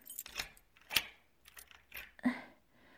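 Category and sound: household object, keys jangling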